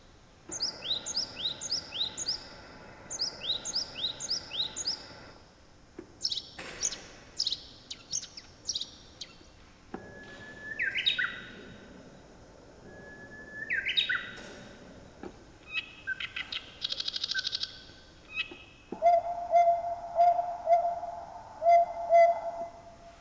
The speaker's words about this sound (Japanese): 今のは鳥の声です。昼間の鳥から夜の鳥まで5種類入っています。カエルたちが聞いている音かもしれませんね。